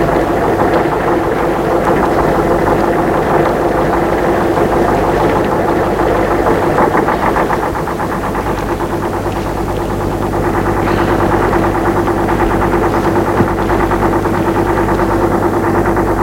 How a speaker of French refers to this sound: Il entend le bruit, c'est un camion qui s'arrête, les portes qui ont claqué.